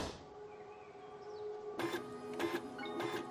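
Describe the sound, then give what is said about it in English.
A slow inkjet printer printing profiles of crime victims whirs steadily with a tonal motor hum, punctuated by three louder bursts of carriage movement and paper feed, alone with no talking. “A slow inkjet printer prints profiles of the victims as Lisbeth casually browses personal photos on Mikael's laptop.”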